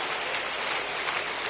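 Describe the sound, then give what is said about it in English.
An audience clapping together for Jesus, a dense, steady wash of many hands with no single claps standing out, fairly loud and even throughout, with no voices over it. “Keep clapping, keep clapping. You are clapping for Jesus.”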